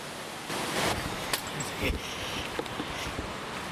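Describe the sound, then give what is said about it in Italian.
A steady, broad rushing wash of flowing river water fills the scene, continuous, with a few faint brief clicks and rustles over it and no talking, heard while walking along a debris-strewn road as rain begins. “È anche iniziato a piovere, proseguiamo in silenzio col fiume che è l'unico rumore reale, continuo.”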